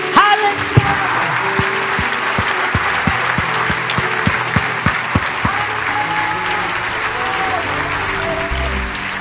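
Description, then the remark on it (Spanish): A large audience applauds the Lord during a sermon, loudly and steadily for several seconds, with a regular low thumping beat running under the clapping during the first half and crowd noise throughout. “Un aplauso, ha regresado con gloria.”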